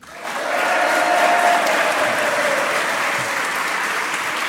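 An audience claps steadily for a duo of contestants, a middle-school student and a high-school student from a small town in the Somme, a dense wash of many hands that rises quickly and holds at a loud, even level for several seconds without any voices.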